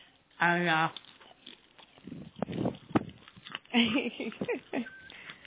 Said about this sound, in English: So we're munching this that while we're talking. So if I, you know, if you hear me graps a bit, you know, you'll understand why.